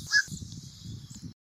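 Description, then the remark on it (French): A black-crowned night heron gives a harsh, low croaking call, a short raspy squawk repeated in quick bursts, alone with no voices. “L'espèce de croassement que vous venez d'entendre est celui du billereau gris.”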